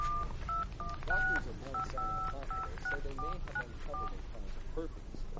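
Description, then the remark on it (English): A telephone number is punched in to call an office: a quick run of about a dozen short touch-tone beeps in an uneven rhythm, each a steady two-note tone, over a constant murmur of background noise. “I have to call my office.”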